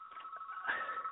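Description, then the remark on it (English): A phone keeps ringing during a call, a steady, warbling electronic tone that holds for the whole moment, fairly faint and thin, as if heard over a phone line. “My phone keeps ringing.”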